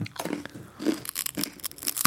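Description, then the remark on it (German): Schüttelbrot crispbread, broken into pieces with a fist, being chewed, with a quick series of dry, brittle crunches coming in irregular bursts over about two seconds, fairly loud and crackly, with no talking. “Probieren wir doch mal, oder?”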